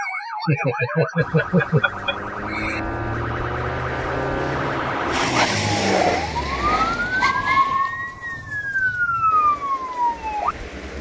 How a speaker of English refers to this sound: Yeah, it's like that police car is behind us. Is he chasing us? Well, you better pull over, dude.